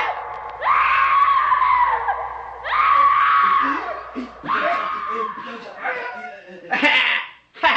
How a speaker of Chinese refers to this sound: 当耶稣在会堂中宣讲天国的福音的时候，突然被恐怖的尖叫声打断了。